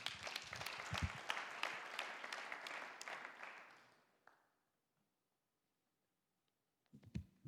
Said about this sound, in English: Thank you so much. That was really great. And you want to give them one more, just a round of applause.